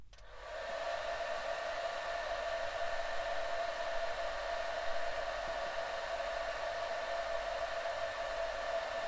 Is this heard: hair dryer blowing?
yes